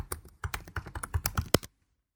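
Rapid computer keyboard typing of the address forms.google.com into the Google Chrome address bar, a quick irregular run of about a dozen crisp clicks over a second and a half, ending with one sharper keystroke before falling silent. No one speaks.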